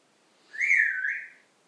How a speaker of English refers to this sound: There she is. She's wolf whistling.